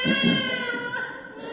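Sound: baby crying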